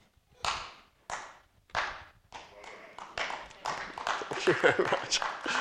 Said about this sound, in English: Gosh, I've never had a round of applause before.